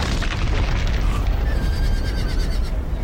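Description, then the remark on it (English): Horses whinny over a heavy, continuous rumble of falling stone and crashing masonry, loud, with no voices, as horses with ropes pull keystones from an ancient bridge. “Once across, the Irish use horses and ropes to pull keystones from the ancient structure.”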